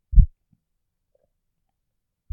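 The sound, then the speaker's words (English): Deep, muffled thumps of a woman's slow heartbeat, two heavy beats a couple of seconds apart with a faint softer pulse between, isolated against silence. “Just listen to each slow, rhythmic beat of my heart.”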